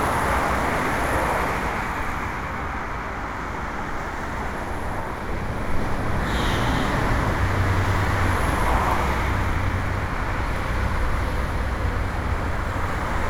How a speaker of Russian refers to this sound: Природных звуков здесь вообще не осталось, их здесь уже нет. Здесь есть звук шипение колес, здесь есть погружение куда-то вот под каменный мост, под железный мост автомашин, автомобилей.